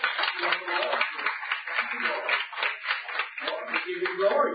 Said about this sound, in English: Anybody here for the first time? Praise the Lord. Hallelujah. Y'all have been here before, clap for these people.